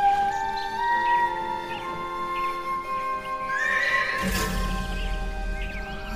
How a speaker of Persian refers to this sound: اسبی وحشی و سیاه و سفید با یال و دم طلایی و بلند از روی سر پسر بچه میپره و کمی دورتر روی تپه کوچیکی میایسته.